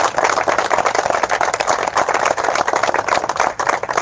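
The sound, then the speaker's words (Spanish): A crowd claps steadily for several seconds for the neighborhood girls who painted the area around the posts, a dense, continuous patter of many hands at an even loudness with no voices rising above it. “vamos a hacer un aplauso a las chicas que estuvieron pintando todo acá el sector de los postes y todo, están acá las chicas del barrio.”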